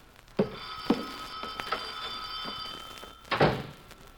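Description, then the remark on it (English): A telephone rings in an office with a steady, bright tone for a couple of seconds, surrounded by a few soft thumps and knocks, as if someone is handling objects. No one speaks. “My office girl is out today, and I'm hopping phones myself.”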